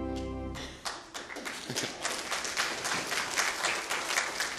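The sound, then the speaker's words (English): A church audience applauds steadily, many hands clapping in a dense, crackling patter that holds an even level throughout, preceded by a brief tonal hum at the start. “We start clapping after each song.”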